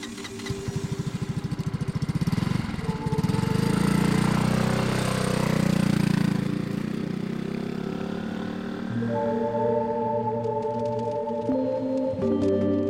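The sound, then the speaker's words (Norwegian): A small scooter's motor engine buzzes and grows louder as it approaches, then settles into a steady, droning hum with shifting pitch. It stays fairly prominent, with no voices. “En liten mann på scooter kommer kjørende.”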